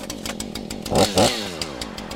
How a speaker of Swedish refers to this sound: Och jag startade motorsågen lite innan, som man vill göra för att veta att den går igång och sådär.